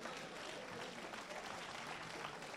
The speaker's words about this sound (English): Don't clap too long. Don't clap too long.